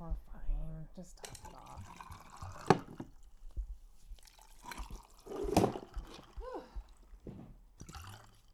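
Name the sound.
drink being poured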